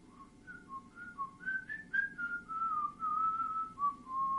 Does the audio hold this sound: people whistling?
yes